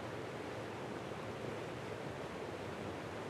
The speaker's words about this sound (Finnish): Joen penkalla nauhan päälle kirjoitetaan kuvailu. Koski. Vesi kuohuu ja kohisee.